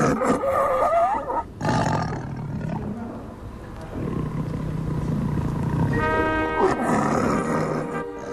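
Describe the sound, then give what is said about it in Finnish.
A human voice imitates a sickly, wheezing, lung-diseased lion's roar: long, rough, growling roars delivered loud, breaking into a strained, raspy, whistling wheeze near the end. “Ja nyt on vuorossa keuhkotautinen leijona, vai?”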